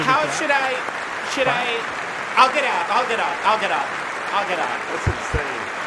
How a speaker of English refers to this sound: This is just like, that's, everyone is clapping. Yes. You should be.